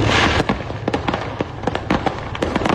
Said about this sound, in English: That is a truck carrying fireworks exploding on I-75 in Tennessee.